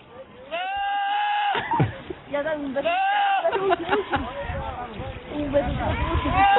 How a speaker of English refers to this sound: just two goats yelling, but they sound like they say Bob. Bob.